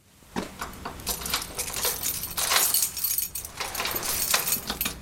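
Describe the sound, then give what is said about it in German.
Metal keys jangle and clink in a series of bright, irregular rattles and scrapes, with a couple of sharper metallic clacks like a lock turning, steady and moderately loud throughout with no voices, as archaeologist Guido Facciani unlocks the door of the former Mainz Cathedral St. Johannes on a Sunday morning. “Guido Facciani schließt die Tür der ehemaligen Mainzer Kathedrale St. Johannes auf.”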